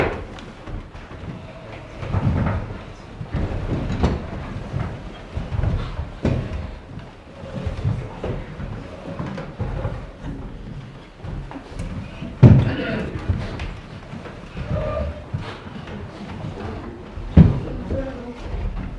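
Chairs scrape and knock against the floor, with scattered thuds at irregular intervals and a low murmur of voices in the background.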